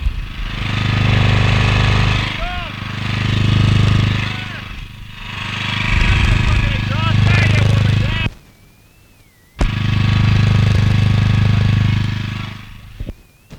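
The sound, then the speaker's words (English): A generator engine drones loudly right up close by its exhaust, its deep steady rumble swelling and easing in slow waves, with a brief cutout near the end and a muffled voice now and then. “Oh, yeah, let's talk to the generator, come on.”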